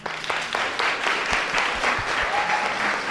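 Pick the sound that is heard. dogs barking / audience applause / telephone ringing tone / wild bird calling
audience applause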